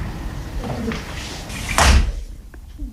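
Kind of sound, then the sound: household object, door slamming shut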